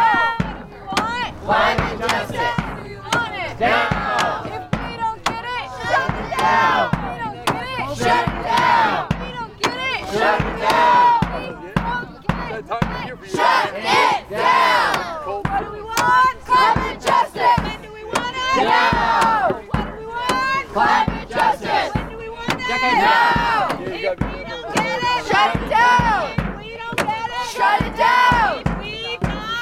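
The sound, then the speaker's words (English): A crowd of protesters at a Saturday protest at Cricket Valley Energy Center chants together in loud, rhythmic unison, voices rising and falling in repeated bursts that continue steadily throughout. “at Saturday's protest at Cricket Valley Energy Center.”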